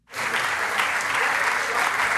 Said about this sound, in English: Yep, those are scientists at the European Space Operations Center in Darmstadt, Germany. They're clapping because their spacecraft just crash-landed, as planned, onto a comet.